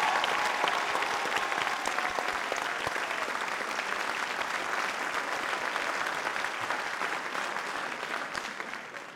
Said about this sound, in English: Congratulations to all the graduates. A round of applause for these wonderful graduates.